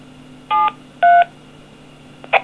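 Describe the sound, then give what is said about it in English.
Two DTMF keypad tones, the digits 7-3 keyed to say goodbye, sound over a ham radio repeater channel, each a steady dual-pitched beep about a quarter second long, followed by a brief chirp, with a low steady hum and hiss underneath. “Now, that time I used 7-3, which is the ham radio thing for saying goodbye over Morse.”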